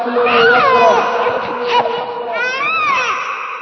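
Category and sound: human body sound, child screaming and crying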